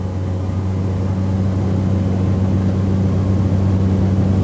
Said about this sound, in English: Fort Chip is only accessible by boat, plane, or ice road. So the next morning, I took a 9-seater prop plane to get there.